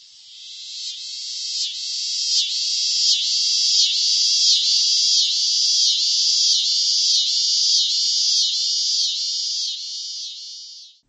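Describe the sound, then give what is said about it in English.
Continuous high-pitched cicada drone in a field of late-blooming wildflowers, with a rapid pulsing rhythm, steady and fairly loud throughout, rising in at the start and cutting off at the end, with no voices. “Cicadas.”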